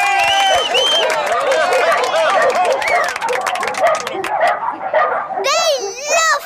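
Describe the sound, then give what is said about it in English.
A small terrier named Trevor barks and yaps in rapid bursts, loud, at a dog show in a tent, over a busy murmur of crowd chatter and children's voices, ending in a high, whining yelp. “The second dog is Trevor the Terrier, a very busy dog this. Can you hold him still?”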